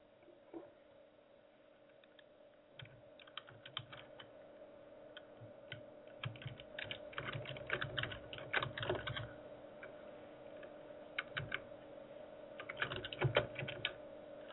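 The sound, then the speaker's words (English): Rapid, uneven clicking of keys on a computer keyboard, moderately loud, with bursts of fast typing and short pauses over a faint steady hum, as someone types while chatting back and forth. “If you hear me typing, please, I apologize.”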